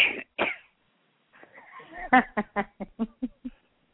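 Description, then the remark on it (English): A person coughs twice, pauses, clears their throat, then lets out a rapid string of short, harsh coughs that taper off. Fairly loud, with no talking. “I still got this fucking cough in plain English.”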